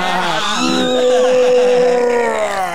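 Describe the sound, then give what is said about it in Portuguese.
A voice imitates a doll's scream with a sustained, wavering high-pitched wail lasting a few seconds, loud, with no other talking. “Gritou, deixa eu ver.”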